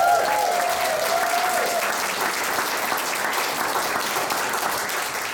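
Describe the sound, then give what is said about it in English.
A crowd at the Royal United Hospital applauds the hospital's more than 200 overseas nurses, a dense wash of clapping that stays loud and even throughout, with a brief tonal note fading out near the start. “Do you know we have over 200 overseas nurses working here at the Royal United Hospital, and they deserve a huge round of applause.”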